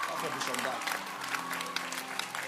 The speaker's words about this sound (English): Clap for Bishop Doug Hayward Mills again.